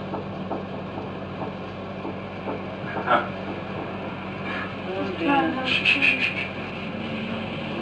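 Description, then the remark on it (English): A quick burst of five or six sharp knocks in a row inside a house, rattling out over a steady low electrical hum, with a few isolated taps and a faint murmuring voice around them. “It's now doing the rat-tat-tat-tat-tat-tat.”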